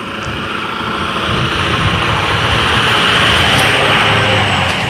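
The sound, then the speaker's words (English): A loud truck engine roars steadily in a neighborhood, a deep rumbling drone that swells slightly and holds at full volume for several seconds, with no voices. “I'm sure the rest of the neighborhood appreciates the manly roar of your truck.”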